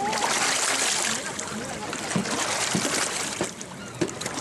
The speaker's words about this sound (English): A few years ago, the generals approved a massive Chinese-financed dam near the headwaters of the Irrawaddy River, just upstream from where these women use the mocha-colored water to beat their clothes clean, brush their teeth, and bathe.